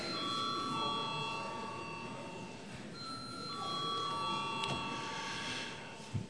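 A parliamentary voting bell rings continuously for several seconds, a steady, sustained electric tone, with faint murmuring underneath, called for a vote after deputies object to referring a bill to the budget and finance committee.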